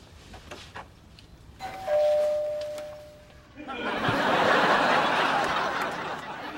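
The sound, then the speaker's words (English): A doorbell rings once with a clear, sustained chime that hangs for a couple of seconds, then a loud burst of noisy commotion and voices takes over. “Now, ring the bell.”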